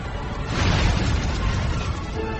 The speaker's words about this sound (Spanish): Logran hacerlo en 2 de los casos, pero en los otros 6 no, y siguen explotando allá por donde van.